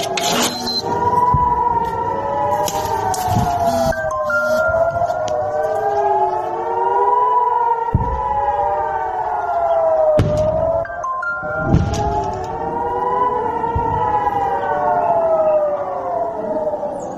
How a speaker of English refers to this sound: Now you heard the beeps? Yes, I heard the beeps. Those were sirens. Simultaneous sirens. Simultaneous sirens. That is why we did not sleep.